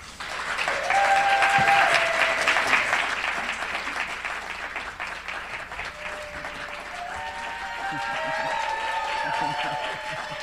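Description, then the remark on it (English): A crowd at a book event at the Free Library in Philadelphia applauds steadily for about ten seconds, with high whoops and cheers rising over the clapping. The noise stays loud throughout and swells again near the end. “We're already screaming.”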